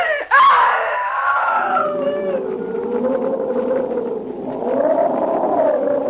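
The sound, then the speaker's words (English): A single long, loud scream of terror bursts out abruptly and holds for several seconds, wavering in pitch as it sustains, piercing with no talking. “That I screamed.”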